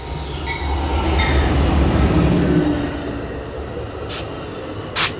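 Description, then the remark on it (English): An Amtrak Hiawatha passenger train between Milwaukee and Chicago rumbles steadily and slows at a station near the Milwaukee airport, with low rail noise and tonal brake hums, then brief hissing bursts near the end as it comes to a halt. No one speaks. “Each way, the train stops at a station near the Milwaukee airport, as it did yesterday afternoon.”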